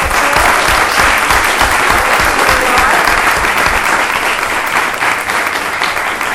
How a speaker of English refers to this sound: Yes, please give a round of applause for our newly appointed teachers that just got approved right now. Congratulations.